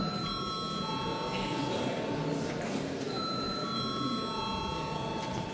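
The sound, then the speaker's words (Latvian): A parliamentary voting bell rings steadily and continuously for several seconds before a vote on a bill, a bright sustained electric tone over the faint murmur of a large hall. “Lūdzu zvanu.”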